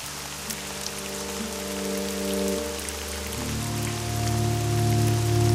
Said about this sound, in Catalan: Primer dia de tardor, eh? Ja comença a ploure.